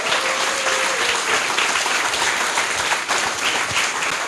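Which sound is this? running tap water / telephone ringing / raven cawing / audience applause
audience applause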